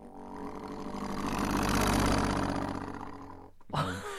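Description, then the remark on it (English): A voice imitates a rumbling diesel engine: a steady, buzzy, throaty drone rising and easing over about three and a half seconds, then cutting off into a brief breathy sweep. “So like that sounds like maybe like a biplane or like a tractor. It's like a sort of like a diesel engine.”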